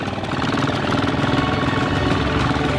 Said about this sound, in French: On entend le ronronnement du moteur. Donc oui, vous y connaissez mobilette. Un peu, je crois. Je trouve que ça fait un peu mobilette, si je puis me permettre.